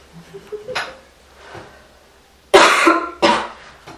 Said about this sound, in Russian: У нас всегда по традиции кто-нибудь кашляет, поэтому привычно. Мы приучены к этому уже.